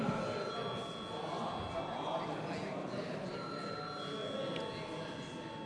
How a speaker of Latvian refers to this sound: Tātad, cienīmie kolēģi, tātad šobrīd mēs balsojam par to, vai tiks veikta pārbalsošana par 15. priekšlikumu. Tātad vēlreiz lūdzu zvanu.